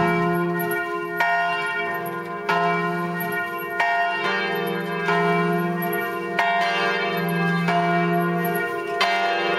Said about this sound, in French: Et alors là, on s'écoute une bonne vidéo de cloche. Ça compte pas vraiment comme un extrait musical d'écouter des cloches.